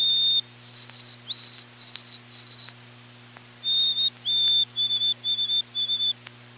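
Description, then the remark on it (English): A white-throated sparrow sings its clear, melodic whistled song twice, each phrase a long pure note followed by a run of repeated higher notes, loud over a faint steady hum. “White-throated sparrows have a melodic whistle.”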